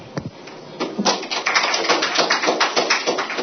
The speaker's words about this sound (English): I think when audiences clap at the beginning of a presentation, it's probably hope. And hopefully, if you clap at the end, it won't be because of relief.